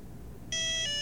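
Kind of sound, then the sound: signal or alarm, mobile phone ringtone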